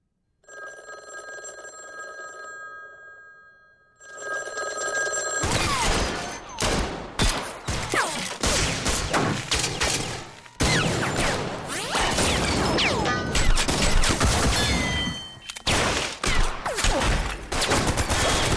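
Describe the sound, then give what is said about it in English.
A ringing, bell-like tone sounds briefly before a loud, sustained barrage of rapid gunshots from Ben Wheatley's new movie takes over, the shots crackling densely and continuously with only a few short breaks. “Gunshot Solo, which gives you a fair indication of what our good friend Ben Wheatley's new movie is all about.”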